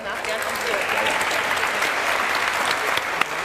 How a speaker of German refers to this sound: mit einem herzlichen Beifall